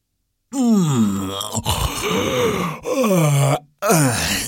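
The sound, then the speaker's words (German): A voice performs an exaggerated, drawn-out yawn for a bored big chest: several loud groaning sweeps that slide downward in pitch, with breathy stretches between them and no words. “Die große Truhe ist gelangweilt, gähnt die große Truhe.”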